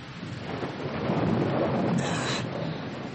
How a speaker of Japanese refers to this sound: バケツをひっくり返したような雨、すぐに全身がびしょ濡れになりました。